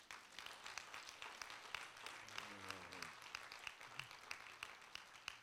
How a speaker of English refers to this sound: And I think we ought to applaud you for the questions that you ask and the honesty that was displayed in seeking information about these kinds of relationships. So applaud yourself.